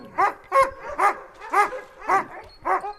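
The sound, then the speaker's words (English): Alaskan husky sled dogs of Denali National Park in Alaska, the park's working sled dogs, barking in a steady rhythm, about six sharp, high-pitched yelping barks in three seconds, fairly loud, with no voices. “Denali's Alaskan Huskies play a vital role in the park, even if they don't wear Park Service gray and greens.”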